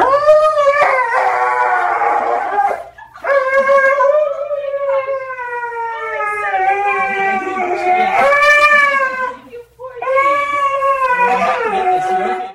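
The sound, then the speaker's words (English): A dog howls and yelps loudly as it is given a needle, long wavering wails rising and falling in pitch, broken by a few short gaps, with sharp yips mixed in. “And if any of you scared of needles and doctors, all right. So when you check out this one, you'll amen and feel this dog's pain.”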